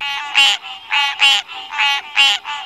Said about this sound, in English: The first one we're going to listen to is the green tree frog. The green tree frog's call is a harsh, nasal grunk-grunk sound.